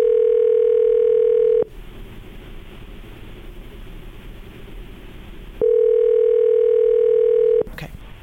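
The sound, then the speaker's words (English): Two long, steady electronic ringback tones on a phone line, each about two seconds, separated by a few seconds of line hiss and ending with a sharp click, as a call from the Breakfast Club radio show on K99 rings through. “I hate to cut you off, but it's ringing right now, okay, though, so okay.”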